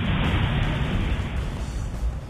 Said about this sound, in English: the sound that I remember that I haven't heard in years is an airplane breaking the sound barrier.